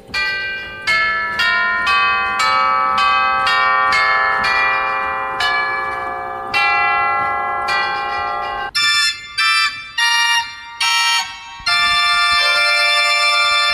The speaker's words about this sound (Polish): Dzwony rurowe. I to nie jest elektronika. Te dzwony rurowe rzeczywiście są w tych organach, tak? Tak, rzeczywiście są.